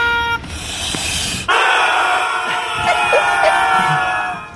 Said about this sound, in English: So these are some screaming ducks. It's a screaming duck toy, right? Chickens, Henrietta chickens, right? Or are these ducks? No, these are ducks, yeah.